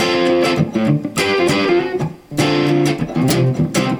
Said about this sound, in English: Let's put the distortion on and be tuned, bang my guitar against the wall a few times and it'll sound like it.